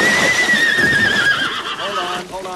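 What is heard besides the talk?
horse rearing and whinnying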